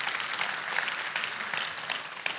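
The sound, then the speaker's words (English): Steady audience applause during a church sermon, a dense wash of many hands clapping at an even loudness for a couple of seconds, with no voices standing out above it. “Some of you need to hear that, and you can give that a round of applause.”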